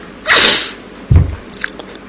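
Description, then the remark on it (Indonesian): A single loud, explosive sneeze bursts out with a sharp hissing blast, followed a moment later by a low thud and some faint rustling. No one speaks. “Kalau bersin itu mengagetkan. Suaranya keras.”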